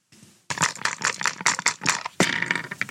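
An electronic dice game rolling: a loud, dense clattering rattle of rapid bursts lasting a couple of seconds, preceded by a brief faint hiss. No one speaks.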